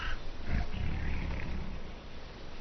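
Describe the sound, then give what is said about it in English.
Tigers in a breeding enclosure at Hongdao Herzu, China, roar in a deep, rumbling growl that swells and holds for a couple of seconds, loud, with no talking over it. “This enclosure at Hongdao Herzu started breeding tigers in 1986 to supply bones and body parts for the Chinese medicine market.”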